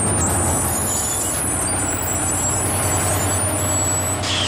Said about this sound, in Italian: È il mio autobus questo. È il numero 9? No, il numero 4.